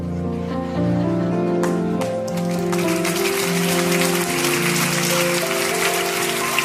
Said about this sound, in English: Thank you for clapping in North Attleboro. Hope it clapped everybody else, everywhere else.